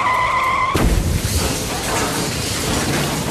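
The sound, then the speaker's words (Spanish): A 1966 Buick Electra's tires screech in a steady, high squeal for under a second as it speeds into the rear of a trailer truck at 2:25 a.m., then a loud crash bursts in, followed by a continuous rough roar of noise. No one speaks. “Eran las 2 y 25 minutos de la madrugada y el chofer, quizás el único despierto en ese momento, no vio que se acercaba velozmente a la parte trasera de un camión de remolque.”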